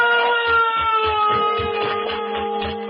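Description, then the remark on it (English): A bell rings continuously, its bright metallic tones holding steady and fairly loud, while quick, regular low thumps pulse underneath throughout. “Do you hear that bell?”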